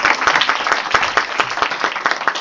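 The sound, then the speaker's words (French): An audience at a master's programme celebration applauds all the speakers with dense, steady clapping, many hands overlapping into a continuous bright patter with sharper individual claps poking through, sustained at an even loudness throughout. “On va les applaudir tous, car ils ont été brillants.”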